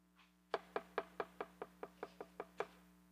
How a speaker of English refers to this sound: What do you do with that knock?